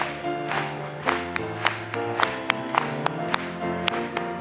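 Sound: audience applauding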